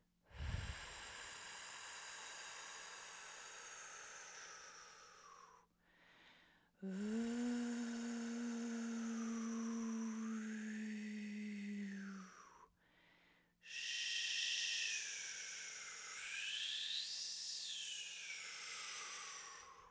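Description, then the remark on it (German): A voice imitates stormy wind in three long breathy gusts of hissing and whooshing, the middle one with a low hum underneath and shifting pitch, each gust separated by brief pauses. “Imitiere den Wind, den Sturm mit deiner Stimme.”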